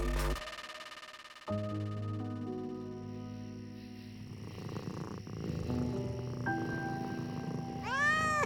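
cat meowing

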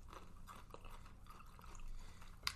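chewing food

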